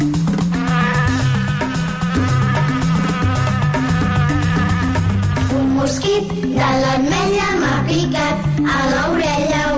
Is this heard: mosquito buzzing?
yes